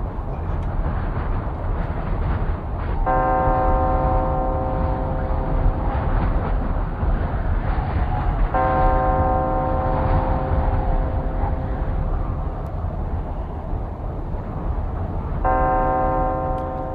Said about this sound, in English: Bells are tolling.